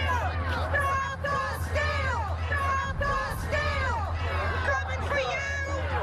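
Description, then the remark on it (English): A large, agitated crowd shouting and yelling at a rally, many raised voices overlapping in a loud, continuous roar that never lets up, with individual cries rising and falling throughout. “The crowd was pretty jazzed up.”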